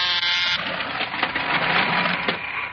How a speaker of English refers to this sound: Here, I'll press the buzzer so you can go into our laboratory.